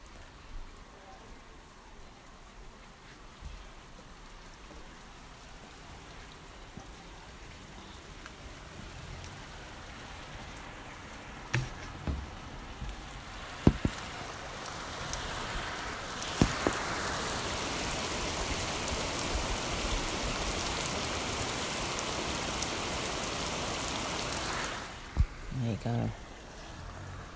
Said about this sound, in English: It's absolutely torrential. Just gonna go over to the window to let you hear it.